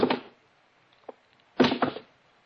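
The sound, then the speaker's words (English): Two shoes, just taken off, are dropped one by one onto the floor of a quiet house, each a dull, fairly loud impact with a short rattle, separated by a quiet pause with a faint tap in between. “First thing I did was take off the shoes and drop them one by one on the floor.”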